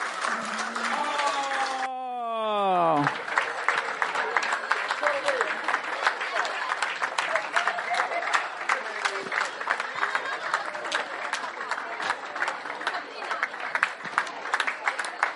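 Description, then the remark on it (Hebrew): An audience claps their hands in dense, steady applause that continues loudly to the end, following a brief voice at the start whose pitch slides sharply downward. “יאללה, להקות בידיים, למחוא כפיים.”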